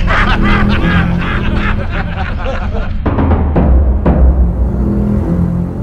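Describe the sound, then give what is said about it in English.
Loud, harsh pigeon screeching fills the whole stretch, a dense run of raspy, honking calls layered over each other with no pauses, forceful throughout. “Our pigeon friend had been watching and listening. He screeched back at them.”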